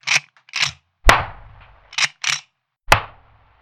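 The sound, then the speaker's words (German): Two sharp gunshot-like cracks, each with a ringing reverberant tail, interspersed with softer quick clicks and snaps, fairly loud, made by striking a long plastic ruler hard on a box to imitate shots. “Wenn der Schuss spektakulärer und nach Hollywood klingen soll, würzen wir ihn noch mit ein paar Kompressoren, etwas mehr Bass und etwas Hall.”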